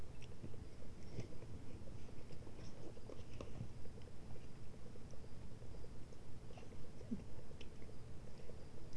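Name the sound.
chewing crunchy food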